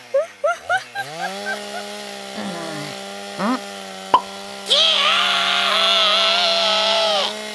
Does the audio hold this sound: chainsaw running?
yes